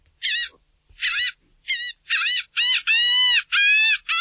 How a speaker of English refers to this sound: Before your eyes adjust, you can smell the warm, salty air and hear the sounds of seagulls nearby.